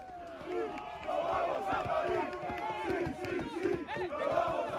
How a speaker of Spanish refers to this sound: Sonido de celebración, así es como el 15 del León festejó ayer en el Central de la Complutense la victoria contra Portugal. España, 24 años después, está por segunda vez en su historia en un Mundial de Rugby.